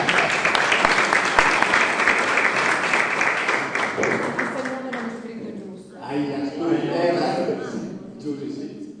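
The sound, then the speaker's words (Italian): A crowd claps in a dense, steady burst of applause that fades after a few seconds, giving way to a woman speaking. “Un applauso.”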